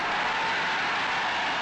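A large crowd of 25,000 extras cheering and roaring, a dense, steady wash of many voices held at a constant loud level for a couple of seconds with no single voice standing out.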